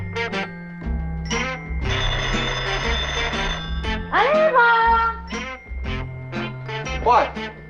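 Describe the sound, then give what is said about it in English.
A telephone bell rings in a loud, rattling burst, its metallic jangle mixed with sustained musical tones and people's voices talking around it. “Is ringing. Well, why don't you answer it?”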